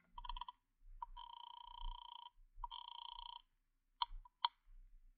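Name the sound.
telephone being dialed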